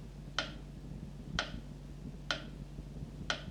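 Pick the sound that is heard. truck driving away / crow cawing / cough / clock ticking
clock ticking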